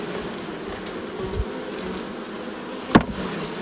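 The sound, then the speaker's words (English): A dense, steady drone of many honeybees buzzing as they are poured from a shipping box into a hive, recorded with a phone held inside, continuous, with a couple of brief knocks or bumps against the wood. “That's what it sounds like to be poured into a hive.”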